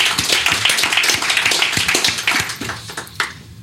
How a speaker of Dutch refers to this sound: Krijg je ook applaus. Ja, zeker.